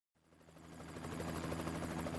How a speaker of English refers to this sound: I can't hear you. There's a helicopter overhead. It's very noisy.